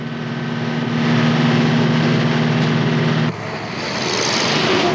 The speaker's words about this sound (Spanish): Una sucesión de imágenes muestra el paso del tiempo con el autobús cruzando diversos puentes y carreteras hasta que llega la noche.